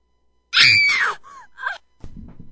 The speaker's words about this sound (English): What was that? Girl scream. That's what it's called.